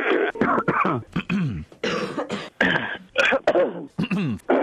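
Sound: coughing and throat clearing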